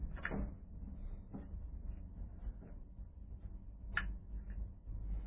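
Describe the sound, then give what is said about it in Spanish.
A heavy titanium door, 10 centimeters thick, grinds open over a steady low rumble, punctuated by a few sharp mechanical clunks and clicks at uneven intervals, moderately loud. “Apenas se abrió la puerta, se iluminó todo el recinto.”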